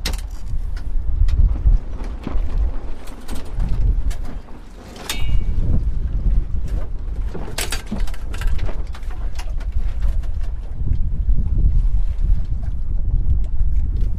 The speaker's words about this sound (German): Komm, wir machen eine Wende, weil sonst sind wir dann da bald in der Boot drin. Also, klar zur Wende. Klar. Und re.